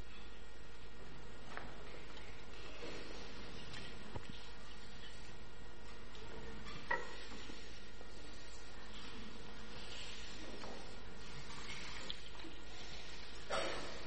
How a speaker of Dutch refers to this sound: En ik zoek twee kinderen die mij zouden kunnen helpen met het inschenken van het water in het doopvont.